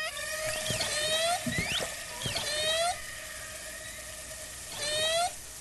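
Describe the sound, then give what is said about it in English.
Three drawn-out, whistle-like animal social calls, made when the animals are closer together to keep track of each other, each a steady rich tone that bends upward at the end, with a few sharp clicks between the first two and a hushed background. “Yeah, that's more of a call they'll make when they're closer together that keep track of each other.”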